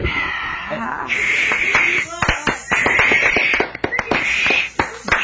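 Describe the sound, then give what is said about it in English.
A studio audience at a New York television talk show reacts noisily, with sustained hissing and booing mixed with scattered claps and some laughter, loud and continuous for several seconds. “Did I detect some hisses and boos in the crowd?”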